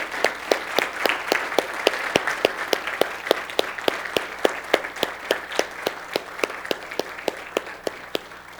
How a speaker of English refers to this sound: Now let's give these guys a round of applause. And gals.